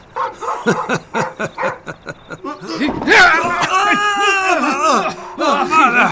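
A vicious dog barks in a quick, steady run of about a dozen sharp barks, then breaks into longer, wavering yelps and whines, all loud.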